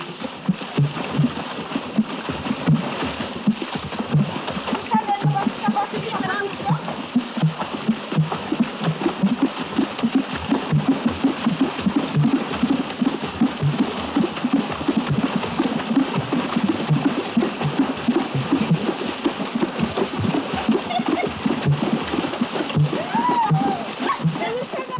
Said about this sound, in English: the Gabun, the women of a village dance hip-deep in a nearby pool. While dancing virtually naked, they beat the water with their cupped hands, thereby producing the different rhythmic tones you hear.